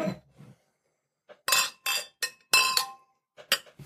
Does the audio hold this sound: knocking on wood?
no